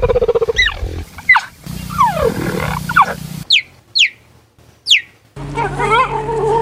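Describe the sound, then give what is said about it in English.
High, bird-like chirps from happy cheetahs, several sharp rising and falling calls in quick succession, some overlapping with purring rumbles and background noise, loud. “These are happy cheetahs.”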